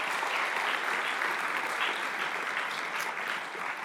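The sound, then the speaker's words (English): Steady, sustained applause from a sizable audience for a children's praise choir fills the whole span, a dense wash of clapping that stays loud throughout and tapers only slightly near the end. “Let's hear it for the kids' praise choir, huh?”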